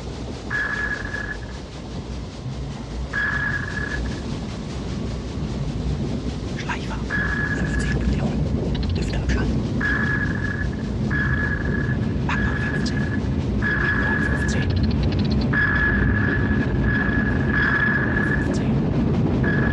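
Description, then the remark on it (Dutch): Submarine sonar pings from the film Das Boot: a steady mid-pitched tone pulses about ten times, sparse at first and then in a quick rhythm, over a loud, constant low rumble. “Maar ja, luister maar even naar wat pinggeluidjes uit Das Boot.”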